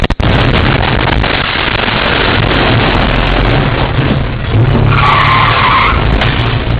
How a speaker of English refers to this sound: Security cameras capture the moment a truck smashes through the front window of a gas station in West Michigan.